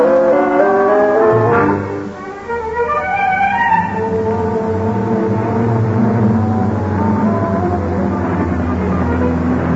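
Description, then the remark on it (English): A car engine revs up with a rising whine, then settles into a steady, continuous drone as the vehicle drives along, with no voices. “Will there be room for me in your car?”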